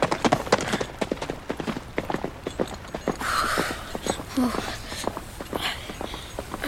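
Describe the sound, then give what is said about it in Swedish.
Horse hooves clip-clop in a steady, brisk rhythm of sharp knocks as a rider rides away, taking the other soldiers along, mixed with a low rustling wash and a brief creak partway through. “Han bara red därifrån och tog de andra soldaterna med sig.”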